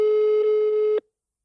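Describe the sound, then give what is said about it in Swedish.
A single steady telephone voicemail tone, signalling to leave a message, loud and electronic, holding for about a second before cutting off abruptly into silence. No voices. “Personen du ringt kan inte nås för tillfället. Lämna ett meddelande efter tonen.”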